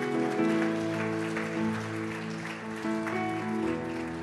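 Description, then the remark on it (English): An audience gives Jesus Christ a mighty hand clap one morning, clapping steadily, the dense hand clapping blending with loud, sustained organ or keyboard chords that ring throughout. No one speaks. “Come on, let's give him a mighty hand clap this morning.”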